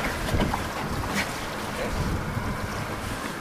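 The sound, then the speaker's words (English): Steady wind buffets the microphone aboard a small boat at sea about a mile off the coast of Bonaire, where divers prepare for a dive, with a continuous low rumble and the wash of water against the hull, loud and constant throughout, no voices. “On a small boat about a mile off Bonaire's coast, Lars and the diving students prepare their underwater expedition.”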